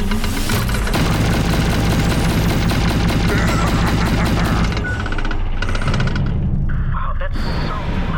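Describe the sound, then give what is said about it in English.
Loud, sustained video game gunfire from massive guns: a dense barrage of rapid, booming automatic shots with deep rumbling bass that rarely lets up, thinning briefly toward the end before bursting again. “Yeah, they're massive guns.”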